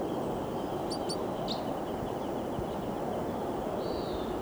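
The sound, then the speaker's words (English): A wild male crossbill, just arrived on the scene, gives a quick pair of sharp, high call notes, followed by a couple of fainter chirps, all partly buried under a steady loud rushing hiss. “Crossbill just arrived here on the scene. Looks like a male.”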